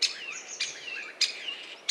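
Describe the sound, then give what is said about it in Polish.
A common starling sings a busy medley of whistles, creaky rattles and sharp clicking bursts repeating roughly every half second, with no other voices. “Tak, i taki miszmasz z jednego kierunku, z jednego dzioba. Nie trudno się domyślić, że to właśnie szpak, chociaż zazwyczaj można go zobaczyć na czubku drzewa, przy budce lęgowej, na czubku dachu.”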